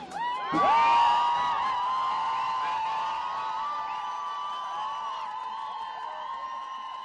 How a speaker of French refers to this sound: Ça m'a fait super plaisir. J'adore crier avec plein de meufs des slogans super dans la rue. Voilà, ça met la pêche.